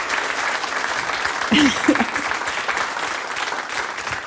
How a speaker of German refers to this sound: Danke, ja. Angebrachter Applaus.